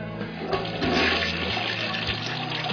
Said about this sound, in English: Okay, we'll go ahead and put him in. Alright, you want to go ahead and flush him down?